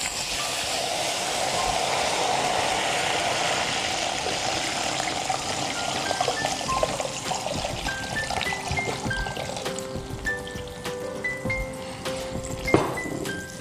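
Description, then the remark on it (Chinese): Rice wine is poured steadily into a pot holding duck laid on top of ginger, a continuous splashing trickle lasting many seconds, with a few light clinks toward the end and no talking. “这个时候呢，直接下米酒。”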